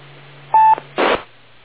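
A single short keypad tone beeps once as someone dials a landline telephone, over a low electrical hum, followed by a brief crackly burst of noise, with the narrow, muffled quality of a phone line.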